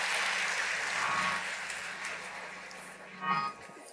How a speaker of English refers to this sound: Now put your hand together and give the Lord a hand clap of praise.